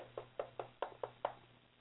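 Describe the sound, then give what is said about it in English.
Six quick, evenly spaced knocks rap on a door in a steady rhythm, then stop, leaving a low hum in the background. The knocking is fairly soft and no one speaks. “Here come evil knocking at your door.”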